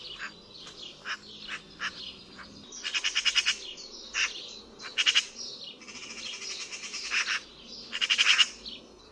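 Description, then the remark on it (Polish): A Eurasian magpie gives harsh, rattling chatter in repeated bursts of rapid scratchy notes, fairly loud, with short gaps between each series and no voices present. “Choć ma aparat głosowy zbudowany podobnie do innych ptaków spod rzędu śpiewających, zwykle odzywa się szeregiem skrzeczących lub ochrypłych, nieprzyjemnych okrzyków.”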